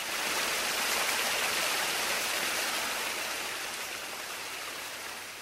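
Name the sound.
flowing river water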